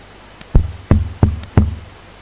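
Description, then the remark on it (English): Four firm knocks on a wooden door, evenly spaced in a steady rhythm, fairly loud with a short hollow resonance after each, and no voices. “And then I knocked the day after, the tomorrow, the next day, and I remember he was there at the door, he opened the door”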